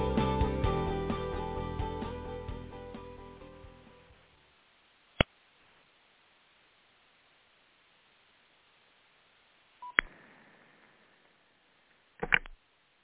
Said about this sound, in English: I'm pushing the wrong buttons on my phone.